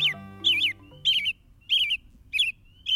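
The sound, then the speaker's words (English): A bird repeats a bright, warbling call about every half second, five or six phrases in a steady rhythm, clear, with a low hum fading out underneath at the start. “his bird note.”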